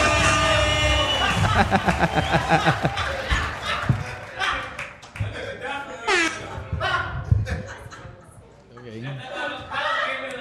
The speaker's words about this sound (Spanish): Fuerte aplauso